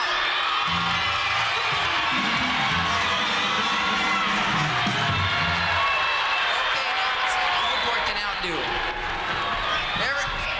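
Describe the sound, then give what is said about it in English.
A large crowd of surfers from the North yells and cheers loudly all at once, a dense, sustained roar of many voices with scattered whoops, lasting several seconds. “So I want to hear all the North surfers yell.”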